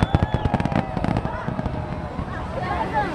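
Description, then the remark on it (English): New Year 2017 fireworks over Copacabana Beach in Rio de Janeiro: a dense flurry of sharp crackling firework bangs bursts out in quick succession, then thins into a steady wash of crowd noise and faint whistling streaks, with voices murmuring underneath. “They say they've reduced the number of fireworks this year and the duration of this show because of an economic crisis here, but it looks pretty incredible to me.”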